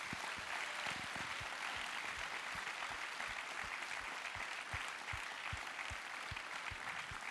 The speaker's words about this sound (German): Давайте им всем похлопаем. Lass uns ihnen einen Applaus geben.